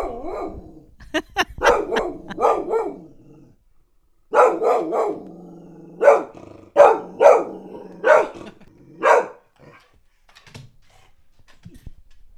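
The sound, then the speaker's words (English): A female dog barks repeatedly at a mailman crossing the street, loud, excited bursts in two clusters, some stretched into whiny, yelping whimpers as she can't get at him, with no one talking and quiet toward the end. “And now she's whimpering because she can't get at the mailman.”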